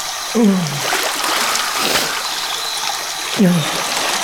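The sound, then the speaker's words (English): Water rushes steadily from a faucet with a hissing wash, broken twice by short descending gurgles a few seconds apart, as water carrying curdled food remains swirls and drains down a sink. “The curdled remains of lunch slopped into the clean swirl of water and disappeared down the drain with it.”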